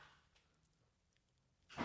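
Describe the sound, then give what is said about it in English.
A child gate swings shut with one sharp, fairly loud clack near the end, following a stretch of near-silence with faint room noise and no talking. “My wife just closed the child gate.”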